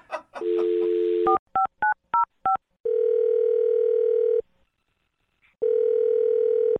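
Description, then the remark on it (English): A steady dial tone gives way to five quick touch-tone beeps as a phone number is dialed, then a long ringback tone, a pause, and another ring, all clear with no talking. “Well, I'll dial her phone number right now, okay?”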